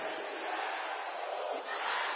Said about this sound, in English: Raise up your right hand to the heavenly and declare this loud and clear. Say, everywhere I go, darkness shall flee. Can I hear the sisters shouting that?